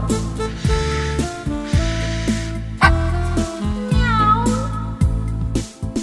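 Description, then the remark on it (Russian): Cats meow and hiss in short, sharp outbursts at a newly arrived puppy, over a bouncy musical accompaniment with steady bass notes. The cat sounds are fairly loud, popping up between the tune's phrases. “Нелюбезно коты встретили дружка, зашипели они, видя чужака.”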